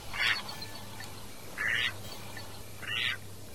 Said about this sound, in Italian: il silenzio era rotto solo dalle strida dei gabbiani e il frullar d'ali di aironi, folaghe e anatre.